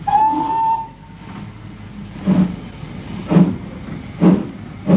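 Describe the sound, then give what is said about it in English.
A train rolls along the rails with a steady, rhythmic clack of wheels over track joints roughly once a second, preceded by a brief whistle tone, under a constant rumbling hiss. “here we are on the other train.”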